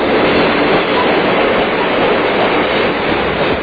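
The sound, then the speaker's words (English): A steady, loud rumble of a moving train, a sound effect following an "All aboard!" call, fills the whole stretch, a dense continuous roar of rolling wheels and rail noise with no pauses and no voices. “See the crew at Olympia Appliance Center during this windup of the big GE train load sale. All aboard!”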